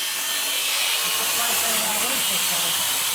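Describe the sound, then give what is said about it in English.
Police cut with a high-powered electric saw in an attempt to breach a door: a loud, continuous harsh whine and hiss, unbroken for the whole stretch, with faint low rumbling underneath. “Police use a high-powered electric saw.”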